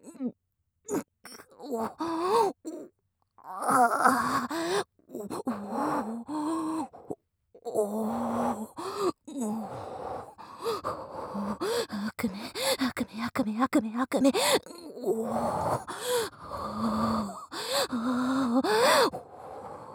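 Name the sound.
yawning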